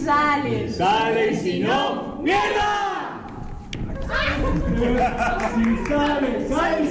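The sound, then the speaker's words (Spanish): The cast of the stage production Arri Orriar, el patio de mi casa shouts its battle cry together just before the dress rehearsal, a loud crowd of overlapping voices in energetic, rising bursts that carry on as a continuous group roar for several seconds. “Y ese grito de guerra del equipo actoral antes de arrancar también lo podemos escuchar.”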